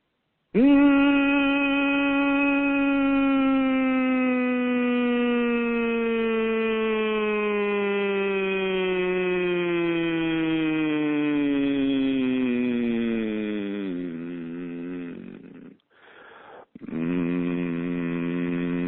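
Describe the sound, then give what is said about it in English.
A single sustained vocal hum glides slowly downward in pitch for about fifteen seconds, wavers and breaks briefly, then resumes on a lower steady note, clear with no other sounds. “And so by using that hum from a high, all I'm doing is imagining a white light in the center of my forehead or in the top of my head”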